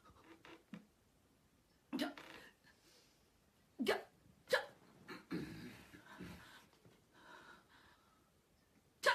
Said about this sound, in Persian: قبل از اینکه دو کلمه حرف بزنی چهار بار سکسکه میکنی.